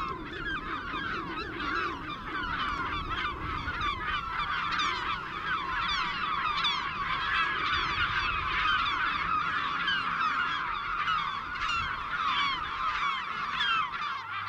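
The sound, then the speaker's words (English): A crowded chorus of southern black-backed gulls (karoro), harsh overlapping calls and squawks running continuously and fairly loud throughout, like a busy colony, with no talking. “this week we are talking about the karoro, the southern black-backed gull.”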